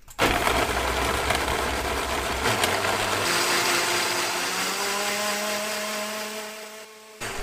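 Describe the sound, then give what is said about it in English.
A blender runs loudly and steadily for several seconds, its motor whine climbing slightly in pitch as it purées hot bisque in parts to smooth it out, then briefly cuts out near the end. “And then I blend it just to smooth it out.”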